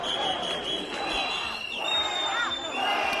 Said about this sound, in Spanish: A la llegada de Pedro Sánchez, abucheos.